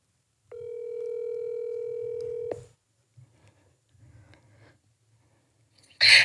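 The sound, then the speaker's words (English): A single steady electronic ringback tone sounds for about two seconds as the Rock the Flock Radio host calls an artist on the phone, then stops, leaving near-silence with faint rustling before a short loud burst of noise at the end. “Let's see what artists we can get to answer the phone right now.”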